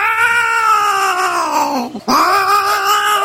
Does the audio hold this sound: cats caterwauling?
yes